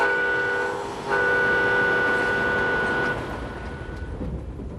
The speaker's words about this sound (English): Trains have been crisscrossing the country for over 100 years.